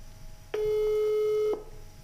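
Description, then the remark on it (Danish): A single electronic ringing tone of an unanswered phone call to the speaker's daughter, a steady pitched beep lasting about a second, heard clearly on its own against faint background noise. “Hun kan se, hvem der ringer, så hun tager det ikke.”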